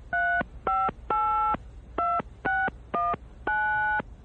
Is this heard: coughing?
no